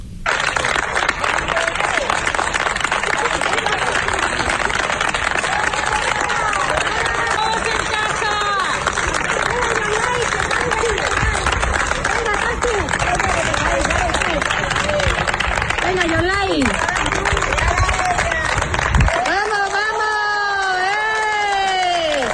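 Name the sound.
hospital staff applauding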